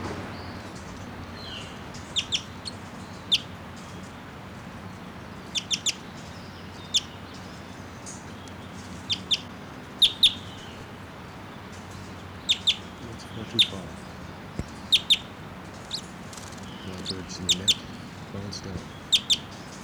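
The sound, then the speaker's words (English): A wild bird perched about 10 feet above the ground over a net, looking down at decoys, gives short, high-pitched chirps, often in quick pairs or triplets, repeating every couple of seconds over a low, steady background rumble. “Wild bird's just sitting there looking down.”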